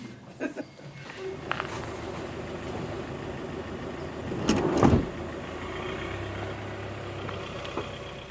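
A car engine hums steadily, swells into a brief louder rush around the middle as the vehicle pulls off, then settles into a lower, quieter drone as it drives away.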